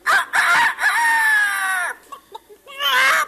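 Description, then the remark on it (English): A performer who does imitations of people and birds loudly imitates a rooster, belting out a long, strained crow, then a few short clucking sounds and a final rising crow, alone without other talk. “This is an imitation of a bird.”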